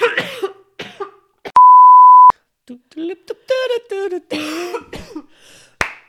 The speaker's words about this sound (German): Ich probiere nicht so laut ins Mikro zu husten.